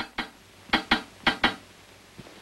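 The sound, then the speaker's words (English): A metal file taps sharply on a pipe that runs up to the ceiling, five metallic clinks in loose pairs, then a couple of fainter taps trailing off. No talking, just the quiet ringing hits. “Tom takes a metal file and taps on a pipe that runs up to the ceiling.”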